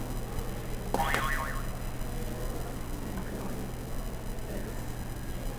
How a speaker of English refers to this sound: Can you press another buzzer?